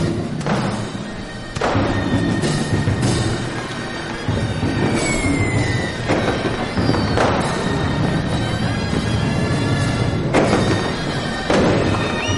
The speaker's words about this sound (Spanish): Tomás sigue en la playa en medio de los disparos de una recreación histórica